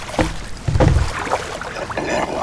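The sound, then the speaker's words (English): A small rowboat moves through water nearby, with splashing, sloshing strokes and a low thump, the wet sounds coming in irregular bursts with no voices. “The boat is near you.”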